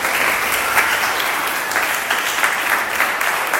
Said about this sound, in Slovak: Ja som hrozne rada, môžete privítať potleskom.